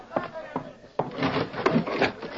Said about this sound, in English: Wait, I'll raise the window.